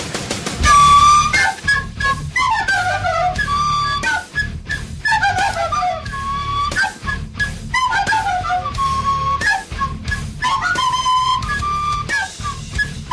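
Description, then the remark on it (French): Breathy flutes take the place of the guitars in a heavy metal riff, their melody looping with swooping pitch slides over a dense, pulsing low backing. Loud and continuous throughout, with no voices. “Que se passerait-il si leur guitare était remplacée, disons au hasard, par des flûtes?”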